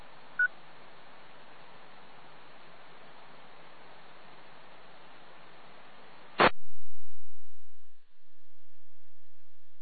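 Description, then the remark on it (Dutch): Telephone line sounds: steady hiss with a brief beep near the start, then a sharp click as the line drops to a quiet, steady dial tone. No one speaks. “Moment, je neemt de telefoon.”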